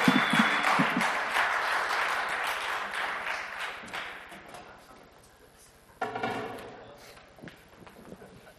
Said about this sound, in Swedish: Ska ni kunna ge dem en applåd? De spelar och sjunger för det, oss.